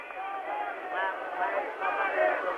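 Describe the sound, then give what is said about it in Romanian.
A crowd of tens of thousands in a lit public square at night shouts together for the speaker to be louder, a dense, continuous roar of overlapping voices, steady and fairly loud, with a muffled, narrow-band quality like an old broadcast recording. “Mai tare strigă mulțimea.”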